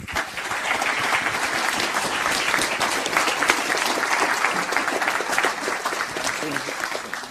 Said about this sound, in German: Ein Applaus bitte.